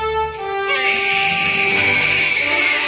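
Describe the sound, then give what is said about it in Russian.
A newborn baby's first cry, set on 23 September 1930: one long, loud, high-pitched wail that rises and strains, the cry continuing without pause and with no one talking over it. “Вот на часах 20 века, 23 сентября 1930 года, и вот он, первый крик меня сегодняшнего.”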